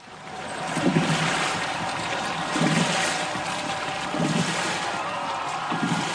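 Rowing boats racing on open water in the 2003 Boat Race, with a steady rushing wash of water and wind and regular low splashing surges roughly every second and a half as the oars pull through.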